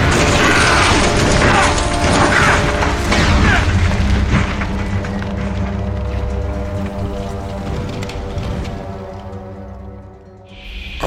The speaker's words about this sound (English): You brought the roof down. Oh, yes, I have.